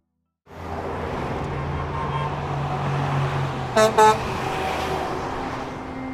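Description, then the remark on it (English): Steady roar of car traffic in Los Angeles, broken midway by two short, loud honks of a car horn in quick succession, then the rumbling traffic continues. “But despite the traffic jams, for many, driving in LA is quicker and more convenient.”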